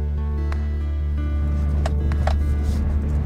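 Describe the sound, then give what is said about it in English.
A truck rumbles along a rough, rutted dirt road on the Navajo Nation, with a steady low engine drone, constant road noise and a few sharp knocks and rattles as it jolts over bumps. “Yeah, we're on this like rutted dirt road.”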